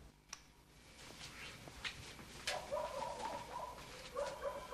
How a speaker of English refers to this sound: She stops, alerted by the noise of the dogs barking.